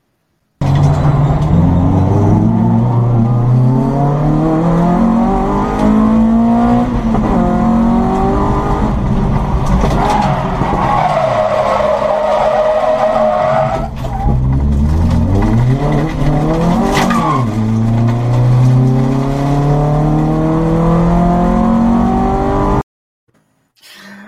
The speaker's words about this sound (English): We have Carl Hitchin at Mallory Park in the Bark Saloons race.